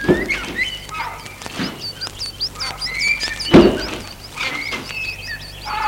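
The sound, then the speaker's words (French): A few dull thunks and shuffling movements as two people leaving a small wood climb into a car and pull the doors shut, with one louder slam, while birds chirp steadily in the background outdoors. “Ils entrent dans la voiture.”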